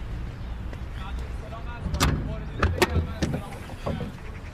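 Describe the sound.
A few sharp metallic clunks and clicks as a man tries to open a car's hood, the latch released and the hood lifted, over a low rumbling background with faint voices.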